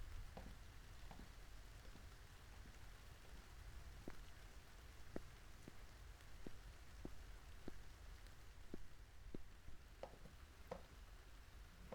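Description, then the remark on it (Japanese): Steady rain patters softly with scattered sharper drips ticking irregularly over a constant low wash, fairly quiet and unbroken, with no voices. “中で雨宿りしていきませんか。”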